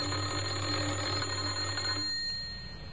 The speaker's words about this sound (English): He had a worried expression on his face as he walked up the few steps and pressed the doorbell. Again he tried.